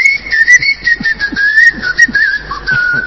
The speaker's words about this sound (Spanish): Venía a chiflar acá arriba, dice.